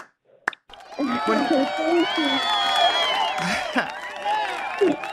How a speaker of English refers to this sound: Do we have that applause?